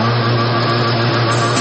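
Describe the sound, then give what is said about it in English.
A boat engine runs hard with the throttle opened up, cruising through the water: a loud, steady roaring drone with a low humming tone underneath, holding even pitch throughout with no voices. “How about throttle up, open her up, and cruise through the waters?”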